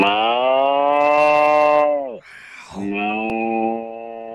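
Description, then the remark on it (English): A person imitates a cow with two drawn-out, loud moos. The first is long and steady and sags in pitch at the end, and a slightly shorter second moo follows after a brief pause. “Okay, …, give us a cow.”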